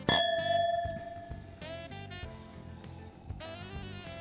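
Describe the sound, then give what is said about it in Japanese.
A single bright clink of wine glasses touching in a toast with a 2020 Pinot Noir from Sun Mamoru Winery (Shimokita Wine), a winery in Mutsu on the Shimokita Peninsula, Aomori Prefecture, Japan. The high, pure ring lingers and fades over soft background music. “はい、 では乾杯。”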